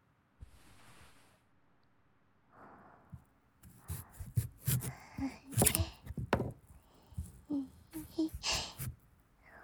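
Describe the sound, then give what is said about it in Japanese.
A kitchen knife chops through a peeled carrot on a cutting board, a quick run of crisp thunks at an uneven pace, preceded by a few soft breathy sounds. “次は包丁で。”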